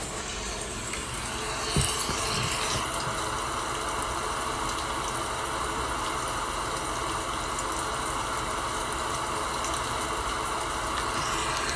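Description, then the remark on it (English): Steady, dense rain pours down in an unbroken hiss, with a low rumble of thunder running underneath and a brief sharper patter early on. No voices are heard. “So for a few seconds, just allow the sound of this beautiful rain coming down. It's thundering, though. There's thunder in there, but just allow the sounds of this beautiful rain to relax you.”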